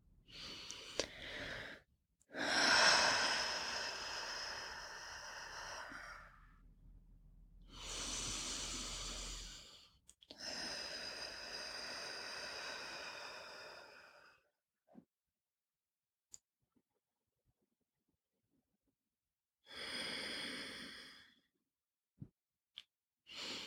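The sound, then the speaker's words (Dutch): Slow, deep breaths drawn in and let out several times as a breathing exercise, each a long airy rush with quiet pauses between, heard alone. “Laten we eerst een paar diepe ademhalingen doen samen.”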